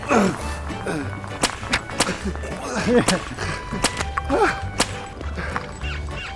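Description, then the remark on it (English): In an ice top-whipping competition, a folk sport of the Northeast, a rope whip lashes a spinning wooden top. Sharp whip cracks snap out at irregular intervals, several loud lashes in a row, over a busy outdoor background of voices and yelping, dog-like cries. “It is necessary to use a rope to whip a wooden top and keep it spinning continuously.”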